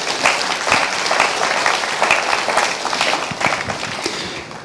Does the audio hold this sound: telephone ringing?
no